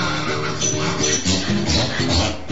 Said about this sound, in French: Oh, j'adore l'accent de ce cheval.